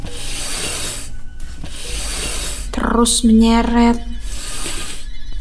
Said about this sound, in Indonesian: Ada sosok berbaju putih dengan rambut kusut acak-acakan menyeret kakinya ke arah R.